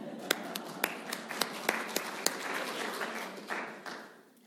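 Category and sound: crowd, audience clapping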